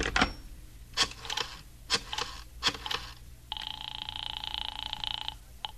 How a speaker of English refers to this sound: I went into the living room and picked up the phone.